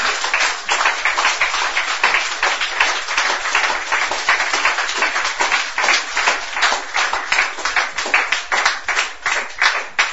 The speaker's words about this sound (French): Eh bien, applaudis, bon Dieu, s'il vous plaît.